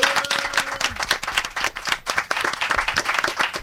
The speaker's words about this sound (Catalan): Que se senti! Aquí un aplaudiment ben fort!